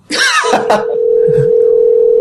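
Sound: telephone call dialing tone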